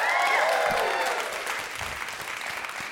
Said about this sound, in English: We are here at Camilleri Hall at USC, and you children better know how to applaud in an audience.